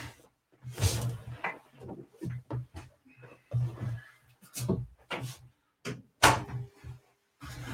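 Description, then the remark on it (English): A screen door is pulled shut, giving a run of rattling clacks and knocks over a low, steady hum. “Let me close this screen behind me.”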